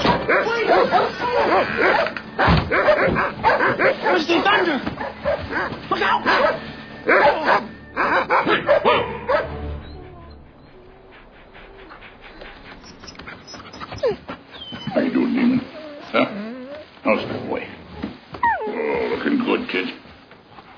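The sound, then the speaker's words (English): Several dogs bark and yip excitedly, loud, with frequent overlapping barks in bursts while people talk over the commotion; a quieter stretch in the middle before the barking picks up again. “This one dog is possessed. He's dangerous.”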